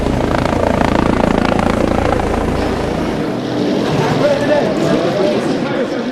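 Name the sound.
helicopters circling overhead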